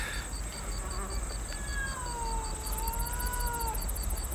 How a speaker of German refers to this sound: Eine magere, graue Katze war aus dem Schuppen herausgekommen und schlich geduckt zu den Männern heran.